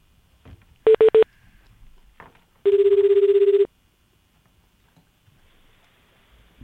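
An outgoing telephone call rings out: three quick electronic beeps, then one steady ringing tone held for about a second, loud, with no talking.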